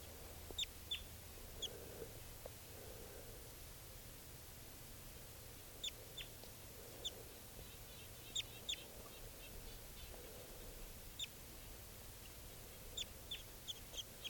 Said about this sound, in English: Birds coming down. Pointed at the wild bird. And it's about 15 feet up.